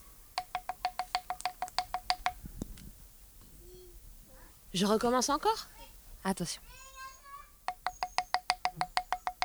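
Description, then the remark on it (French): A stick, called a magic wand, taps quickly and evenly on a piece of wood, making a bright, pitched knocking that imitates a bird's song. Two bursts of about a dozen taps each are separated by a short spoken remark. “Alors, ma baguette magique, je vais imiter le chant d'un oiseau avec ma baguette magique.”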